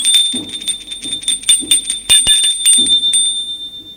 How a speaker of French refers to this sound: Un soir, Charles a envie de revoir Christine. Il sonne à sa porte.